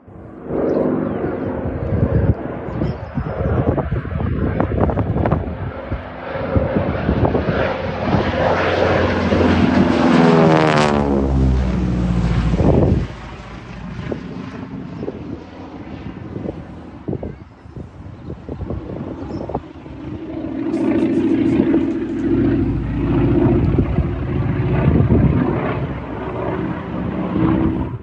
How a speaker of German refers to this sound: Und ihr könnt jetzt den Sound gleich mithören. Jetzt beide Flieger.